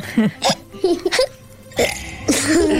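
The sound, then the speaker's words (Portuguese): A person imitates hiccups, making a string of short, voiced gulping yelps, about four or five, spaced irregularly with brief pauses between them. “Mostra-me o teu melhor soluço.”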